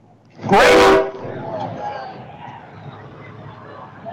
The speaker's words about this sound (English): Grain. I hear the bus. Grain truck.